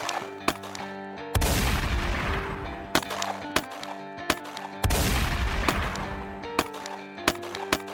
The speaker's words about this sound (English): But within just minutes, police officer William Remo Cody arrived at the back entrance of the bank and immediately started exchanging gunfire with Billy Burt.